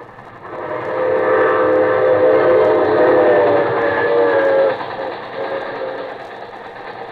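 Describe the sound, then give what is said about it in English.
A train racing away, heard from a road leading to a town, rumbles steadily with a sustained horn-like tone over it, fairly loud at first, then dropping in level as it recedes. No voices. “I was afraid, and I stopped on the road, and I heard my train racing away.”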